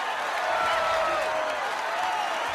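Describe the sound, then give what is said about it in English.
A basketball crowd cheers and applauds after a last-second three-pointer wins the game for the Knights, in a steady, dense roar, with shrill whistles rising and falling above the clapping throughout. “Reg and Murph embrace as the crowd celebrates.”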